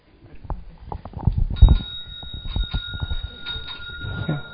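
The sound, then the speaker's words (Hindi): A doorbell starts ringing partway through and keeps going as a steady, continuous electric ring, with clattering and knocking noises underneath it. “ये बेल बज रही है और दरवाजे की घंटी बज रही है।”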